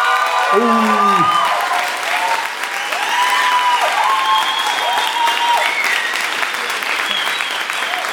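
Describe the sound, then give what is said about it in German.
An audience in Kreuzberg breaks into steady, loud applause that lasts the whole stretch, with high whistles and whooping cheers rising over the clapping, voting by applause for the industrial architecture entry. “Euer Applaus für die Industriearchitektur.”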